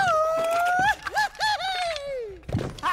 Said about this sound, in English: Now, give me your best grito. My best grito? Come on, yell! Belt it out!